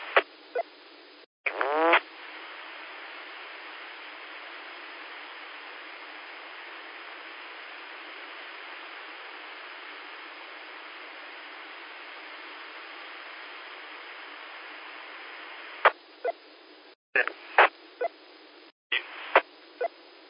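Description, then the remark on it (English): A radio transmitter is keyed open with a click but sends no audio, giving a steady, even hiss of static that runs unbroken for about fourteen seconds, then ends in a flurry of short crackling bursts and clicks. No voice is heard. “Like somebody's wanting to hold a key down there and no audio.”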